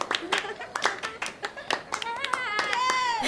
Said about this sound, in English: Can we clap for ourselves for dancing like stars?